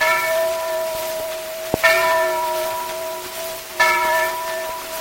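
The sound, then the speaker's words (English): A big bell on a boat landing on the Ohio rings out with a sustained, resonant tone, struck again twice about two seconds apart, each strike bringing a bright new swell over a steady, hissy background. “Now that boat I'm landing, don't you hear that big bell ring?”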